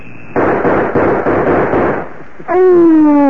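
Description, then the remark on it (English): A rapid burst of gunshots fired at Rilla right in the middle of the advertising, several sharp, loud cracks blurring together for about two seconds, then a loud sustained high tone that slides slowly downward in pitch. “We shot at Rilla.”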